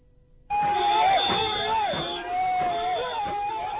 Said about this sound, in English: The Champakulam boat race gave a fitting start to this colourful festival amidst cheers and whoops of joy.